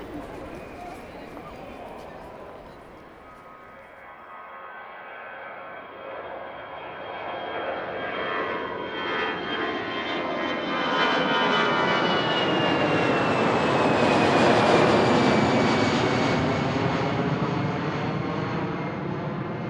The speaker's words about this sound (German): Fünf Stunden später landete das Flugzeug auf dem Nordpol